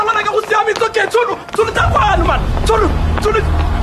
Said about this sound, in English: It was like slow motion, watching the car approach. My whole life flashed before my eyes.